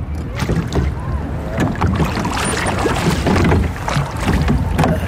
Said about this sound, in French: Là-bas, c'est très joli parce qu'il y a une petite famille à bord d'une barque.